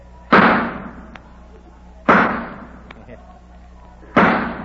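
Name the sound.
gunshots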